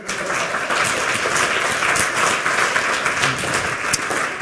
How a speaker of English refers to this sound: Well, anyway, give Jesse a round of applause for hacking the lightning talks.